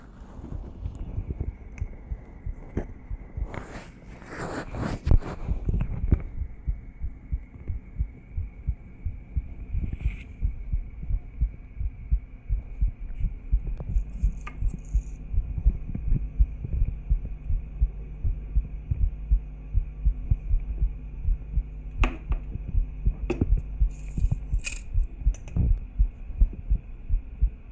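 A rapid, steady human heartbeat thumps in low, muffled pulses, with a faint hum and occasional scraping contact noises on top.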